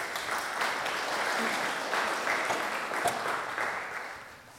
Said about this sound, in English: A little round of applause for our mirror holders.